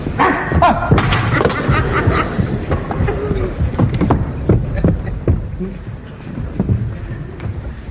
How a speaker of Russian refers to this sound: До сих пор не могу очнуться от испуга. И зеркало он разбил.